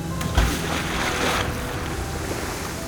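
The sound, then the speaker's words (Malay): Rough sea waves wash and surge steadily with a blustery storm wind. Early on, a heavy low splash or thud breaks through as Jonah is thrown into the sea, then the churning water continues without any voices. “Kemudian mereka melemparkan Yunus ke dalam laut.”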